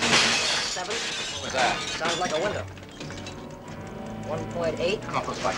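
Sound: window glass shattering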